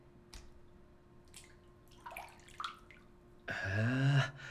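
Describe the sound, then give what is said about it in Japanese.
Water splashes softly a few times in a hotel bubble bath, with scattered drips, then swells into a louder, sustained sloshing rush near the end. No one speaks. “へえ、泡風呂って初めてだけど、こんな風になってるんだ。ホテルの風呂って広いからいいよね。”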